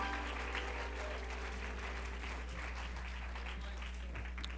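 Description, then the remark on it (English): A crowd claps steadily in praise to God for pouring out the Holy Ghost, a dense, continuous patter of many hands at even volume, with a low background hum underneath. “Let's give God one more hand clap of praise for pouring out the Holy Ghost.”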